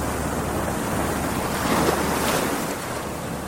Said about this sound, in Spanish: Era como si la tierra rugiera lejos, mar afuera, y las olas produjeran un gran estruendo. La gente decía entonces: «Muy mal tiempo vendrá». Es que siempre se presenta así.